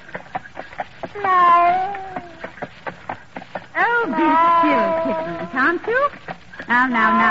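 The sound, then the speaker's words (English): A cat riding in a horse-drawn carriage along an old-fashioned London pavement gives several long, wavering, loud meows over a steady rhythmic clip-clop of hooves that fills the gaps between the cries. “And in the carriage, a rather formidable old lady, her nephew, a student at the university, and a cat.”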